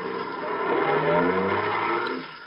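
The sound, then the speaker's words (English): A taxi's engine revs up and pulls away, a steady rumbling drone that swells in the middle and then fades slightly at the end, with no voices. “Taxi. Hey, taxi.”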